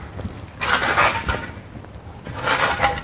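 A snow scoop scrapes and shovels dry leaves out of a concrete gutter beside a house in two loud, hissy, rustling strokes, separated by a brief quieter pause.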